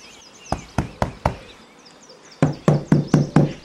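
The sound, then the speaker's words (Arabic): Knocking on the door of a home: a slow series of four sharp raps, a brief pause, then five louder, quicker knocks, with faint bird chirps in the background. “عاد إلى البيت بسرعة، ولما طرق الباب فتحت دبدوبة له.”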